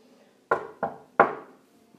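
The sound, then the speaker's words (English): Three heavy knocks on a wooden door, loud, in an uneven rhythm with the last blow hardest, each leaving a short resonant boom. No one speaks. “Mom, open the fucking door.”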